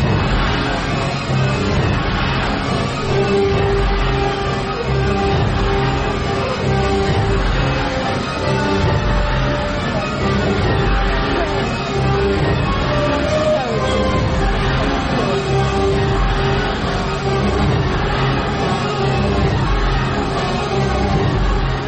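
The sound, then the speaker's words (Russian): Loud, dense orchestral music, Nikolai Masalov's machine music performed at the Batumi State Music Centre, pounds on without pause, a relentless wall of sustained brass-like tones over churning percussion that gives it a menacing, mechanical drive. “Вот так, устрашающе и беспощадно, музыка машин Николая Масалова ворвалась в Батумский государственный музыкальный центр”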